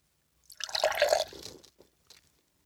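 Pink liquid is poured briefly into a small glass test tube holding white and red powder, a gurgling splash lasting about a second, followed by a couple of faint drips.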